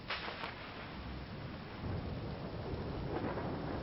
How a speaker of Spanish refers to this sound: Los árboles se caían, los truenos asustaban, el cielo estaba muy oscuro, casi como si fuera de noche.